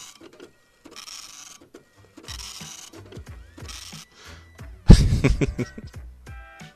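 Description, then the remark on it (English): A dot matrix printer prints in a series of buzzy, rasping bursts as the head sweeps back and forth, fairly loud, with a heavier clattering pass near the end. “I want to see a picture on a dot matrix printer.”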